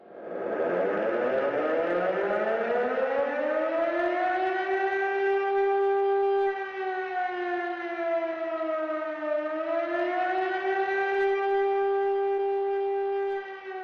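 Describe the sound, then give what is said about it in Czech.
A civil defense siren sounds the general warning, the fluctuating tone used if floods threaten, unlike the fire alarm tone: a loud, harmonic tone that winds up from low pitch, holds steady, dips briefly, then rises again in a slow wail, with no voices present. “Zvuk, co právě slyšíte, je takzvaná všeobecná výstraha. A právě tento kolísavý tón by byl použitý, pokud by hrozily povodně.”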